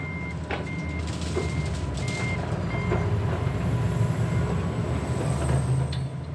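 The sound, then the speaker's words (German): A regional train rumbles steadily at Kietz station, where it stops once an hour, its low engine drone filling the scene while short electronic beeps repeat at intervals above it. No one speaks. “Nur das Hauptgebäude bleibt erhalten für den Regionalzug, der hier einmal pro Stunde hält.”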